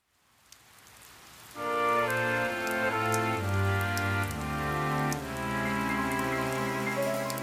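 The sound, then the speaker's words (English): Steady patter of falling rain plays alone for about a second and a half, then sustained musical chords with a deep bass line swell in and mostly cover it. “Rainy day, do do do do do.”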